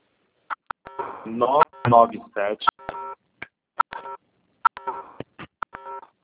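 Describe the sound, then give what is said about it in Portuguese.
A series of short, bright keypad tones from someone typing on a cell phone during a group call beeps out in an irregular rhythm, some in quick bursts, mixed with a stretch of talking voices partway through. “Tem um celular fazendo barulho.”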